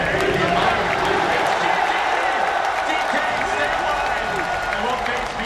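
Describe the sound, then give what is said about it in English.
The crowd at the Dota 2 esports International finals at KeyArena, Seattle Center, Seattle, roars steadily, a dense wash of cheering and rhythmic chanting voices that stays loud and unbroken for several seconds, with scattered clapping mixed in. “And they're all there being here in Seattle, and they're cheering. They're chanting.”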